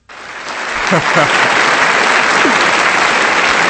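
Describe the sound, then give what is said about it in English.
A round of applause starts abruptly and holds steady, many hands clapping in a dense, loud wash with a few faint voices underneath. “He get a round of applause.”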